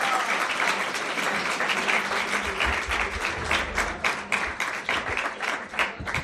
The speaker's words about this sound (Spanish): Así que, pues nada, chicos, muchísimas gracias por subiros. Ahora dentro de un rato seguimos hablando con más compañeros, así que nada, muchísimas gracias y un fuerte aplauso para ellos.